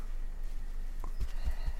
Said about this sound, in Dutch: Jezelf op de borst slaan. Dat heeft ook echt heel veel met elkaar te maken. Daarmee stimuleer je je thymus en daarmee stimuleer je ook je gevoel van eigenwaarde.